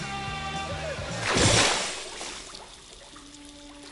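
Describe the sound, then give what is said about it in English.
Someone falls through the air to the bottom of a massive drop and lands in dirty sewer water with one loud splash that bursts up and then fades into sloshing, with steady orchestral music playing underneath throughout. “He falls through the air, avoiding pipes as he falls all the way to the bottom, landing in some dirty water.”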